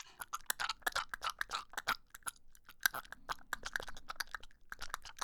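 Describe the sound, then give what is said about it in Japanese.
Wet chewing with quick, irregular smacks and crunchy clicks, steady for several seconds, alone and without any talking. “ほーら、咀嚼して絞り出してあげるわ。”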